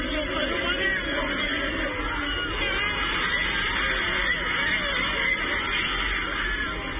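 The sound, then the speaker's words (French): A huge crowd gathered at the foot of an immense statue roars and cheers without pause after captain Sadio Mané scores the winning penalty in a CAN final against the Pharaohs, a dense, steady wall of shouting voices that stays loud for the whole stretch with no single voice standing out. “Une clameur assourdissante après 2 heures de silence et de stress pendant une finale très fermée contre les pharaons.”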